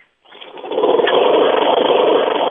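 A lawn mower engine starts up after a brief silence and keeps running loudly and steadily with a buzzing, rattling drone, with no one talking.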